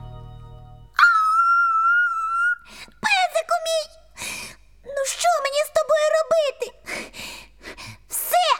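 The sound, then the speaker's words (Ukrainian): A little dog whimpers, opening with a long, steady high whine, then a run of shorter, wavering whimpering cries that rise and fall. “Песику, тихіше, бо тато нас ще сьогодні висварить.”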